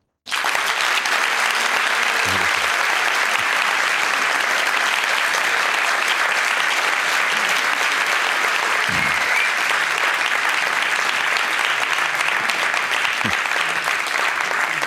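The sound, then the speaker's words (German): Sustained audience applause welcoming Herbert Prohaska before his talk, a dense steady wash of many hands clapping at even loudness for about fifteen seconds, with no talking over it. “Und deswegen bitte ich jetzt um einen kräftigen Applaus für Herbert Prohaska.”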